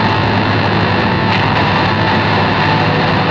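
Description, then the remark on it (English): A combine unloads freshly harvested wheat from its hopper into a truck driven alongside: a steady, loud rushing hiss of pouring grain over a constant machine drone, continuous with no talking. “At a signal, a waiting truck drives alongside and is loaded with a deluge of rain.”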